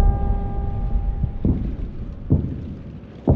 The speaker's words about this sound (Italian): 1943. La notte è buia e sopra le nostre teste sentiamo il rombo sordo dei bombardieri passare minacciosi.